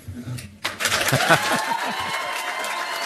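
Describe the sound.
An audience breaks into applause after a brief low murmur, the dense clapping swelling quickly and holding steady at a loud level, with voices mixed into the crowd noise.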